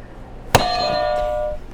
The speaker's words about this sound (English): All right, you can hit another buzzer for me, or you can hit two at once if you want.